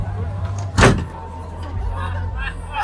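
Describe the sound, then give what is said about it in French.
A single sharp, loud bang as a door swings hard into a man's face cuts through a steady low rumble of traffic, then the background hum carries on. “Dans 2 secondes, il va se prendre la porte dans la gueule.”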